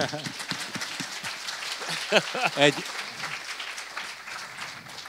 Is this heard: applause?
yes